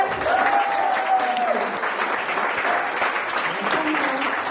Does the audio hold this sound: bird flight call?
no